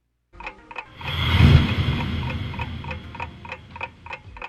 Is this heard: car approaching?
no